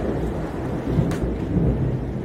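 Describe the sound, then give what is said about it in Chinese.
A deep, loud rumble of thunder rolls continuously through heavy rain in Guangdong, with a brief sharper crackle partway through and steady rainfall hissing underneath. “你看这个雷好大，但是对于我这个死肥宅来说，下不下雨、出不出太阳好像没什么特别的关系，只是广东这边下雨的话就会比较凉快，就不会那么热。”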